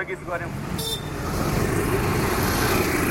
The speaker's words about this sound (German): Innerhalb weniger Stunden strömen die Menschen wieder auf die Straßen und Kathmandu verwandelt sich in ein lärmendes Chaos aus Autos und Motorrädern.